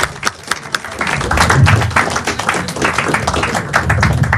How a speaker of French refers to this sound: Merci beaucoup. On peut vous applaudir. Ils vont à nouveau sortir pour laisser la place à trois nouveaux improvisateurs. Dans vos applaudissements, vous n'arrêtez pas d'applaudir. Jamais.